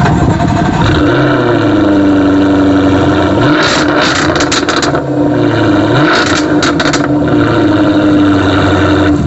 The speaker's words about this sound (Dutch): Weet jij welke auto er zojuist is gestart hier in de showroom